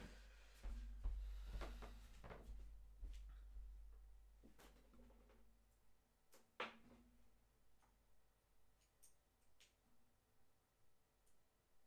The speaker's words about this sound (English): Let me plug in my keyboard because it's almost out of battery. I apologize for the squeaking. Hold on.